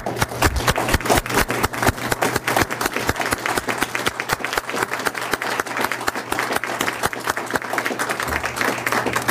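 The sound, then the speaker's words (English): Sustained applause from a large audience honoring members of the Wyoming House and Senate for their service, many hands clapping in a dense, steady roar for several seconds without a break. “I applaud you for your service and ask the audience to join me.”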